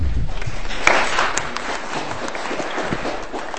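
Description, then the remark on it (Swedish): An audience at a panel event applauds steadily as the final speaker is introduced, many hands clapping in a dense, continuous wash of sound at a fairly even loudness throughout, with no voices standing out. “Jag måste börja ge utrymme för de här applåderna, tror jag.”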